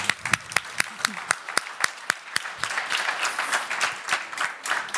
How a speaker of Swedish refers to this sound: Jag tycker att de också är värda en ny applåd.